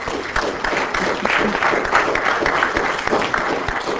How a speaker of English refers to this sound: Let's give a round of applause to Craig.